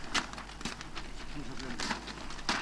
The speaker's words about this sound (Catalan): Està arrencant el paper d'embalar.